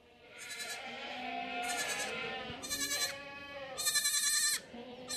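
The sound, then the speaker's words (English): Several dairy goats bleat in turn on a dairy goat farm on the outskirts of Hamilton during kidding time, four or five overlapping, quavering calls against a steady background of farm ambience with no talking. “Is a dairy goat farm. It's kidding time.”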